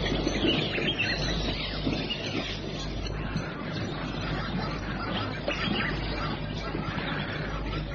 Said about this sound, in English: The fence box drinks daintily around the edge of the water, and the high-pitched barking cries of the zebra mingle with the cry of the birds as the sun begins to set.